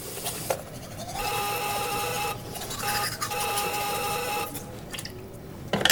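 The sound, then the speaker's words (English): A door buzzer in an apartment sounds in two long, steady, harsh buzzes, the second lasting longer, with a soft scratchy noise running underneath throughout. “She's brushing her teeth as the door buzzer goes.”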